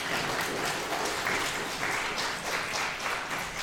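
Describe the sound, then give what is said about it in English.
A crowd at an event applauds the volunteers in a steady, dense wash of clapping that holds at an even loudness throughout, with no voices standing out. “So first of all, let's hear a round of applause for all the volunteers.”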